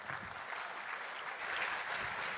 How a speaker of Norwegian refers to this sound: Ta igjen en stor applaus!